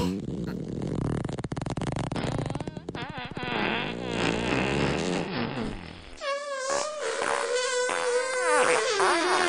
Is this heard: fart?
yes